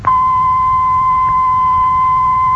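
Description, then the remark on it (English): A steady, unwavering pure test tone holds a single mid-high pitch for about two and a half seconds at constant loudness, starting and stopping abruptly, with a faint low rumble beneath it, played in a studio for an experiment comparing how lively two studios, A and B, sound. “We shall play a steady tone in Studio A and then in Studio B.”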